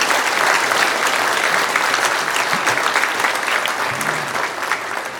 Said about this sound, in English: Didn't they do well, everyone? You wouldn't have guessed that we only had one rehearsal, and that was at 9:45 this morning. So I think they deserve another round of applause.